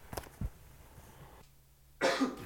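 A short cough sounds, followed by a brief muffled bump and a quiet pause, then a louder burst of throat noise or rustle near the end.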